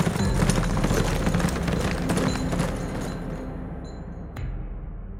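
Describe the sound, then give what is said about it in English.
Three horses with riders gallop off through an alley into the night in a dense, rumbling rush of hoofbeats that gradually fades away, leaving a faint thud near the end. “Then, slipping down through the alley, the trio of killers and thieves mounted their horses and rode off into the night.”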